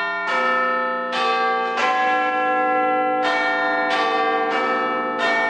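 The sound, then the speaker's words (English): The Big Ben clock tower bells chime a slow melody telling the time, about seven resonant strikes with each one ringing on and overlapping the next, loud with no talking. “The chiming of the bells. Big Ben tells the world what time it is.”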